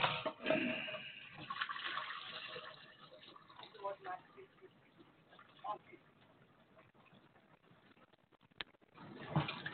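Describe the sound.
Too much water pours steadily into a container, a continuous splashing gurgle that swells at the start and again near the end, with faint muffled voices underneath.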